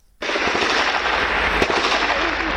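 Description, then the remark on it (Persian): After a brief silence, loud gunfire and heavy weapons fire from Israeli army air and artillery strikes on the north and south of the Gaza Strip erupt over a dense, continuous roar, with sharp cracks and rapid bursts repeating throughout; no voices are heard. “حملات شدید هوایی و توپخانه ارتش اسرائیل به شمال و جنوب نوار غزه، حملاتی که باز هم بر شمار غیر نظامیان کشته شده در نوار غزه افزود.”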